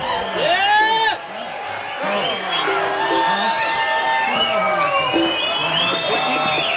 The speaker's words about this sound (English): As you can tell, the crowd is screaming for an encore.